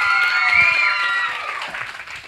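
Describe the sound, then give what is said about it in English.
A crowd applauds steadily and fairly loudly for a young boy taking a bow, with cheers and whoops rising over the clapping before it begins to thin out toward the end. “Everybody give him a round of applause.”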